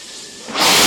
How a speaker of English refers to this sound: We have a go for main engine start.